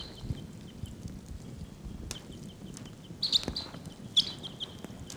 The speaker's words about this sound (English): 749. Wild birds are calling. I think they may take off.